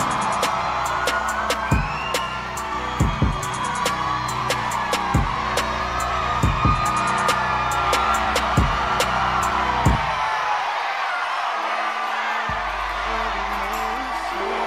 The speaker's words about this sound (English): Y'all start clapping right now. Give it up for Chico Bean!